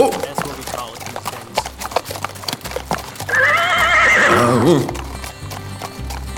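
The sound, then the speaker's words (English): A horse, an extra horse just brought over for a rider, lets out a loud, wavering whinny that rises and falls over about a second and a half, while steady rhythmic hoofbeats clip-clop throughout. “Here's an extra horse, mister. Hope you can ride.”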